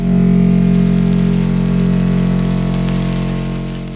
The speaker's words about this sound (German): Dann beginnt sich der Schirm zu drehen und darüber gespannte Schnüre produzieren einen regenähnlichen Sound.